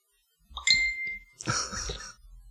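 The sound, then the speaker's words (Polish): A phone notification ding rings out clear: a bright sustained tone followed by a fuller, shimmering second chime, with no one speaking. “Wyciszyć telefon! Po to go wyjęłam! I to jest właśnie pech.”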